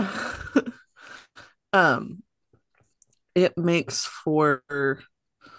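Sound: hiccups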